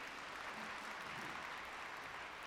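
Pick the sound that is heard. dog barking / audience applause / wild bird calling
audience applause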